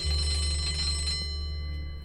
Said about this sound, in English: Then she kissed him on the cheek, the ruined cheek, and got up to leave as the bell signaled the next change of class.